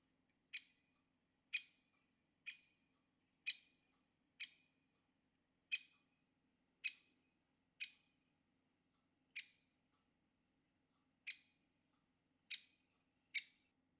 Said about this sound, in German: den Specht an seinem Ruf erkennen. Der Buntspecht.